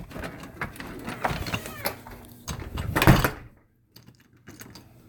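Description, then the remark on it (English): A door is opened: a run of rattling, clunking handle and latch noises builds to a loud thud or swing, then everything drops to near silence with a few faint knocks. “Just fucking open the door already.”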